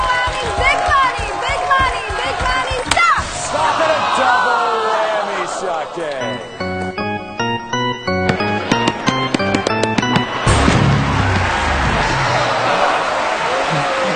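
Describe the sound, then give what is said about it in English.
A cartoonish basketball-dunk sound effect on a TV game show marks a contestant's fourth whammy, knocking their score back to 0: bouncy, stepped synthesized tones rising and falling in quick bursts, surrounded by a noisy studio crowd and excited voices before and after. “Your 4th whammy, he dunked you right out of the game, knocked you right back down to 0”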